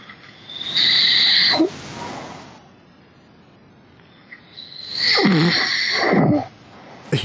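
A man who has fallen asleep during a recording snores twice, each a loud, rasping breath lasting about a second with a whistling edge, separated by a few seconds of quiet. No one speaks.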